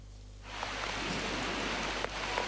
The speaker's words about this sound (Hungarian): Szó szerint szakad az eső Pekingben. Annyi esik, hogy a még el nem árasztott utakon is bokáig érő vízben gázolnak az emberek az araszoló autók között.